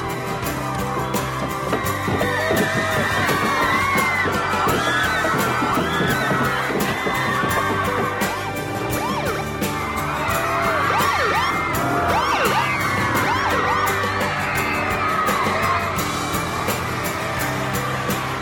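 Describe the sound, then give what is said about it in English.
A dense crowd of girls waving British and Canadian flags and bouquets surrounds a limo, shrieking and screaming nonstop, with scattered thumps and bangs of hands pounding on the limo windows mixed into the constant din. “Girls surround the limo and bang on the windows.”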